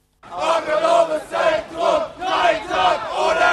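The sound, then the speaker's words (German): Hundreds of young demonstrators chant loudly in unison at night as they march through Freiburg city centre, demonstrating to preserve the KTS self-organised cultural centre; voices rise and fall in a steady rhythmic pattern of repeated phrases, several strong pulses over a few seconds. “Hunderte Jugendliche ziehen durch die Innenstadt. Sie demonstrieren für den Erhalt des Kulturtreffs in Selbstorganisation KTS.”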